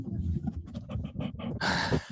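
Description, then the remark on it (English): A small dog that has just walked into the room snuffles in quick, breathy bursts, a run of short sniffing pulses ending in a longer, harsher snort of air; no one talks. “So that's one of my favorite sounds, is that little dog snuffling.”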